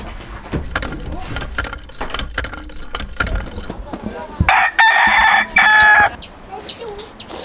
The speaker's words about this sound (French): L'hirondelle et le coq. Le coq, ça reste dans les cages. Parce que le coq, c'est la passion des gitans.